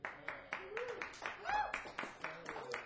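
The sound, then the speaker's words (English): A concert audience claps in a fairly steady stream of sharp, soft-edged claps, some muffled because some people have gloves on, with faint voices murmuring underneath. “You can't hear all the clapping because some people have gloves on.”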